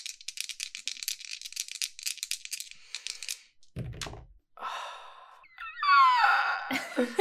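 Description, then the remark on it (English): Dice rattle rapidly in a cup or hand for about three seconds, then a low thump as they land, followed by a rising and falling wail-like moan. The dice are rolled for a roll plus steam, minus 2, and come up a 4, a fail. “So I roll again? Yeah, roll plus steam.”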